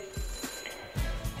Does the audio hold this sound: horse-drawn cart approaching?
no